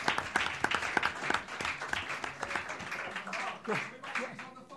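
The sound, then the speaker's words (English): A short round of applause for Mark Roberts, a Stevenage legend: steady, crackling clapping from a small group that keeps an even density throughout, with a voice briefly rising over it near the end. “Let's just have a little round of applause for Mark Roberts for being the biggest legend that's ever worn Stevenage shirt.”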